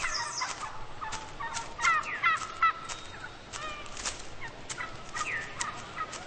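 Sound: wild turkey gobbling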